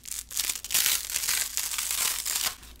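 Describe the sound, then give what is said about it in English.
Continuous crackling and crinkling of paper sheets being pulled apart and separated, a harsh rasping texture that swells and fades in uneven bursts for about three seconds, with no voices. “Actually, I do want to get the paper apart and separate them, but it makes a really awful sound, and this is, I think, my last sheet.”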